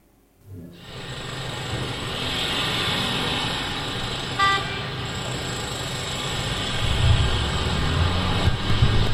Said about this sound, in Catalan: Però què fas? Doncs enxegar el cotxe.